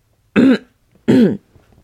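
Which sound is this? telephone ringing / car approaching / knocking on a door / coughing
coughing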